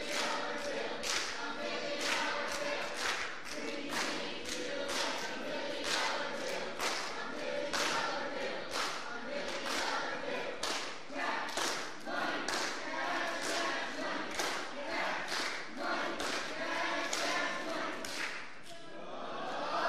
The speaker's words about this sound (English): Since Orange is up, let's give Green an opportunity to redeem themselves. Green, come on up here and give us your cheer.